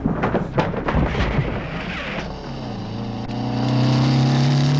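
A motorcycle engine hums with a steady harmonic drone that grows louder toward the end, as if drawing closer, after a stretch of rough, rumbling noise, as it is ridden up to a brick kiln at dusk. No one speaks.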